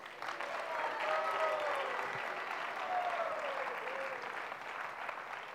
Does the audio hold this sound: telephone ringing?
no